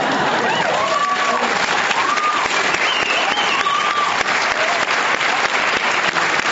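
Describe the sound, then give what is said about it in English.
Loud, sustained applause fills the whole stretch, a dense wash of clapping from a large crowd with excited shouts and cheers rising above it, never letting up, as a speaker brings out a graph. “He whips out a graph and everyone screaming in applause.”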